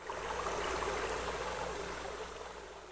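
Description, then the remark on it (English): Steady rushing of Barton Creek water pouring through a grate into a tunnel under the sidewalk, by a dam beside a spring-fed pool; a dense continuous wash with fine bubbling texture, moderately loud, no voices. “The creek water flows through this grate into a tunnel under the sidewalk.”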